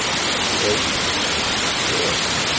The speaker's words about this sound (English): Oh, really? The water's coming in this way. It's impressive.